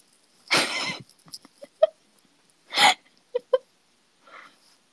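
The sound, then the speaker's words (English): Two short, sharp hiccups stand out, each paired with quick breathy gasps and small clicking catches in between, fairly quiet, with no talking. “Let me just say, I'm not confident that my hiccups sound appealing.”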